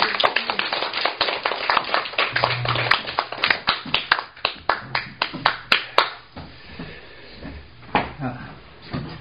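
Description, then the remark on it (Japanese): A crowd applauds two people with dense, rapid clapping that stays loud for several seconds, then thins into scattered individual claps before fading. A faint murmur of voices sits underneath. “お二人に改めまして大きな拍手をお願いいたします。”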